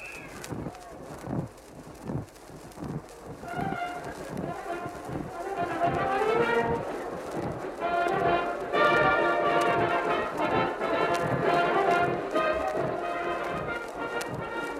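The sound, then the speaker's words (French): Circus cavalry horses' hooves walk in a steady, muffled rhythm of soft thuds around a circus ring, while band music swells over them and carries on loudly. “Ils sont en piste, on les voit marcher, n'est-ce pas?”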